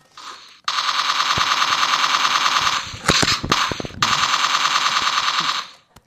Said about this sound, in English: Then he heard the sound of a helicopter. And before he knew it, a machine gun had opened up on the turkeys.